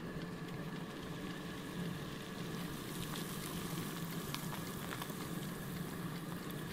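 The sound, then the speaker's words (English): Boiling water pours steadily onto dry freeze-dried wonton soup, a continuous hissing splash with faint crackles and fizzing running the whole time, no voices. “All we need is boiling water, I guess.”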